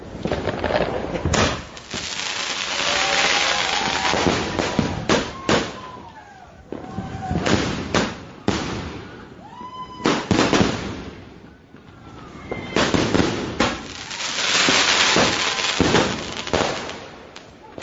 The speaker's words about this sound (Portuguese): Lembrando, né, essa lei foi feita até porque os rojões assustam, causam acidentes, e não apenas com cachorros e outros animais, que se perdem, se machucam, alguns chegam até a morrer, né?